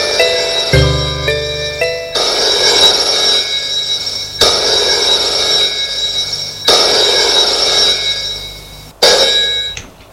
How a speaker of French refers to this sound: Le lendemain, le téléphone sonne chez elle.